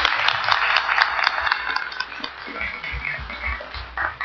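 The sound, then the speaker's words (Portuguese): An audience breaks into steady, dense applause, many hands clapping together, holding strong for a couple of seconds before easing off slightly toward the end, given as a round of applause for the event's conductor and her team. “Eu gostaria primeiramente de dar uma salva de palmas a ela e a sua equipe, que é sozinha.”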